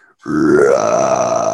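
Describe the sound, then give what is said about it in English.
A voice imitates a screaming shark with a loud, sustained guttural growl, rough and burp-like, rising slightly in pitch before holding steady for over a second. “So this shark's like screaming, right?”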